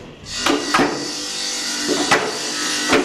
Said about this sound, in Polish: A tu już wchodzimy do sklepu, do kiermaszu. Na lewo warsztat stolarski. Panowie tutaj pracują.